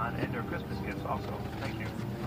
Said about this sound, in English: on board an airplane, about ready to take off for the trip overseas to the Chaos Communications Congress. Listen to the announcement.